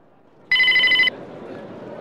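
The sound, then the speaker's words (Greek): A telephone rings in one loud, bright electronic burst about half a second long, then cuts off, leaving a low murmur of background noise. “Α, θα αφήσω το τηλέφωνο ανοιχτό για λίγο, μήπως μπορέσετε να πάρετε.”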